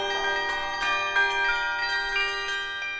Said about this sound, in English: When I was called with the offer to have the Earth play the bells at Berkeley, I couldn't resist.